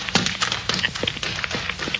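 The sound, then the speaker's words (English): Quick, steady footfalls of a man running up a road past two men walking home, about eight sharp slapping steps in two seconds, evenly paced over a faint background hiss with no voices. “Yes, a man running up the road, past the two fellas trudging home.”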